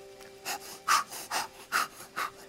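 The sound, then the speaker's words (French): A voice imitates the saw of lumberjacks at work near a wooden cabin in a forest clearing, with six rhythmic, breathy rasping strokes in quick back-and-forth succession. A faint steady hum runs underneath. “Et vous entendez justement, non loin de cette cabane en bois... le bruit d'une scie.”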